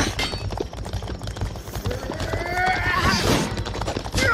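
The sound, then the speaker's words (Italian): Hooves clip-clop in a steady rhythm while a horse lets out a loud, wavering neigh partway through, with busy background noise throughout, during combat on horseback. “Combattimento a cavallo. Tacchete, tacchete.”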